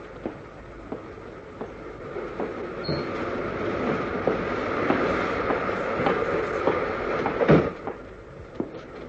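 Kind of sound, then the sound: vehicle, moving passenger train interior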